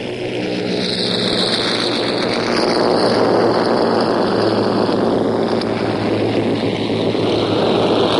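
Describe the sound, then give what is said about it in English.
Propeller aircraft engines roar in a loud, steady drone that swells slightly as the third aircraft, loaded with paratroops, revs up its engines and pulls round towards the tarmac at an aerodrome, with a rough, buzzing throb throughout and no voices. “So the third machine begins revving up her engines, and bit by bit she's pulling round towards the Tamek.”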